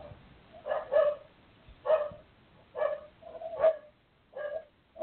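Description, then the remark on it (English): Dogs bark in a steady series of short, sharp, mid-pitched barks, about six or seven bursts over several seconds, moderately loud with no talking over them, barking because the owner's wife is coming home. “They're a quarter of a mile away, and because my wife's coming home, they're barking at the.”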